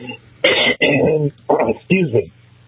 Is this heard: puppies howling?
no